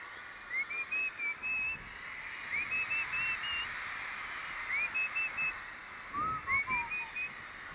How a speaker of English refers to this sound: so I'll just whistle to you for a bit.